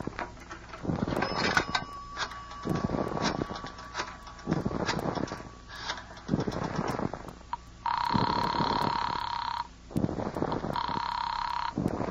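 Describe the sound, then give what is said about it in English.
A telephone rings in two long, steady electronic bursts near the end, loud, following a series of rhythmic rasping pulses; no one speaks. “But other than that, it will just take a phone call.”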